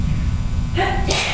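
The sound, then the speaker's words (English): A single sneeze, a short voiced intake followed by a sharp, breathy burst, moderately loud over a steady low background rumble. “Bless you.”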